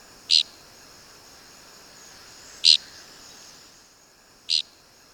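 Three short, buzzy dickcissel flight calls, each a brief rasping burst, spaced a couple of seconds apart over a faint steady hiss with no other sounds.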